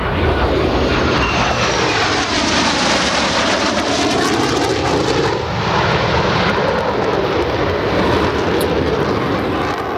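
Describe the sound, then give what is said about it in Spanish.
An allied military jet roars loudly as it takes off, a dense continuous rumble with shifting whining tones sweeping through it for the whole stretch, with no voices. “Los pilotos aliados despegan, en el aire miden la distancia, calculan la velocidad.”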